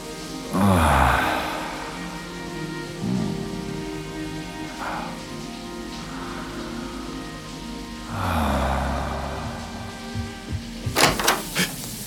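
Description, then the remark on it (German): A warm shower runs in a steady, hissing spray as a person holds their head under the stream, swelling louder twice as deep breaths are drawn in and out, before a few sharp knocking clicks break in at the end. “Als ich meinen Kopf unter den Wasserstrahl halte, gibt es plötzlich nur noch diesen einen Moment.”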